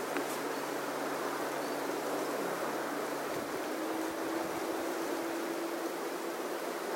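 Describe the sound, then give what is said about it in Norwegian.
A steady, broad rushing like wind blows continuously at an even level, with a faint low hum underneath; no voices, just the constant airy wash throughout. “Hør på suset fra vinden og vær i kontakt med luftens engel.”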